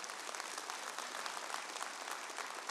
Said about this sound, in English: I'm grateful for all of the difference makers. Come on, we could clap for that.